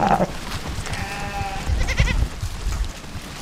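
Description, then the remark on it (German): A herd of goats and sheep from a Maasai village in Kenya bleats as it walks thirstily to a river, stirring up dust in the midday heat; one clear wavering bleat rises above shuffling hooves and low rumble, with more animal cries briefly overlapping. “Ziegen und Schafe laufen durstig an einen Fluss.”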